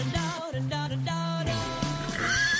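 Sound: horse neighing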